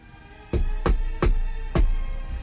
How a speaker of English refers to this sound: And new homes being built. Does that last sound fit in with what you've been thinking this spring?